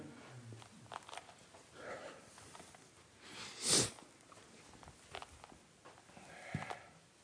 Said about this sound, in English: Bless you.